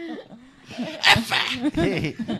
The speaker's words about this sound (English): oh, did the dog sneeze again? Funny.